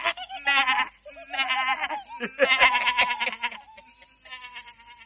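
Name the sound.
young goats bleating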